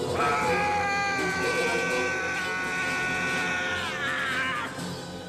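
A man yells loudly and angrily at a statue of a lumberjack holding up a circular saw blade, one long strained, raspy cry held for several seconds, its pitch wavering and rising before trailing off.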